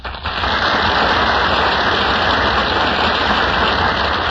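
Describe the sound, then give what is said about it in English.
Steady, dense audience applause at the Gulf Theater as William Powell and Ginger Rogers enter from the wings, a thick crackle of many hands clapping at once that swells in quickly and holds at an even, loud level without any voices. “That applause, ladies and gentlemen, means that William Powell and Ginger Rogers are now entering from the wings of the Gulf Theater.”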